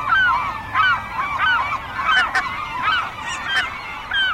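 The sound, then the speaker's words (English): A dense chorus of about 100 gulls calling over one another in a feeding frenzy over a bay, plunging into a herring ball near the surface and competing for the food, harsh overlapping squawks and yelps rising and falling nonstop, with no one speaking. “I could hear the frenzy in their calls as they competed for the food, and so apparently could other gulls, who detoured from their flight line”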